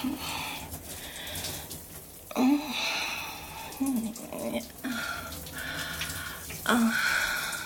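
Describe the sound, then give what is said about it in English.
Shower water runs in a steady, even hiss throughout, with a few brief, soft vocal sounds rising over it now and then. “Oh, I like this part of my shower.”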